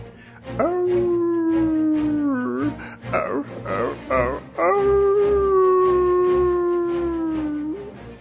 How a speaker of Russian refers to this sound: Волк головушкой качнул, песню волчью затянул.